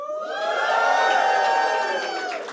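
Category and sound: crowd, audience cheering loudly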